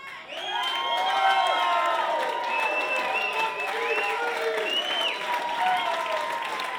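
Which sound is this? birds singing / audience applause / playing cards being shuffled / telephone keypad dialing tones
audience applause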